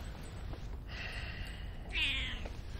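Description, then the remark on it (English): A cat named Ambrose meows twice in greeting: a long, drawn-out mew followed by a shorter, brighter one, moderately soft over a low background hum, with no one speaking. “I need some of your cat wisdom.”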